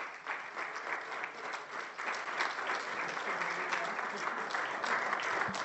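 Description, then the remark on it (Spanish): Sustained audience applause fills the space, a dense, steady patter of many hands clapping that swells slightly partway through and continues at an even level to the end. “Es más, dése un aplauso.”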